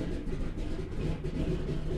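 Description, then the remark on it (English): Heavy radial engines of a B-17 bomber, turned on once everyone is aboard with seatbelts fastened, roar in a loud, steady, low-pitched drone with a throbbing, rumbling texture and no voices. The sound holds constant without pause. “Once everyone's aboard with their seatbelts fastened, the B-17's engines are turned on.”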